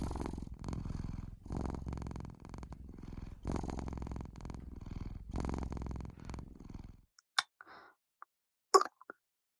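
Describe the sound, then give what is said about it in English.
A person imitates a cat's purring: a close, steady low rumble pulsing in rhythmic waves for several seconds, then quiet with a few faint scattered clicks and drips. “Feverishly shaking and meowing so much.”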